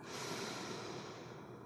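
A long, deep breath drawn in, steady, a broad airy rush lasting under two seconds with no talking.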